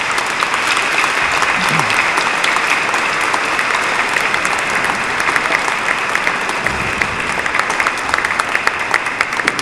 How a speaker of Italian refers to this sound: Ogni impegno va lodato. Un applauso per questi nostri fratelli.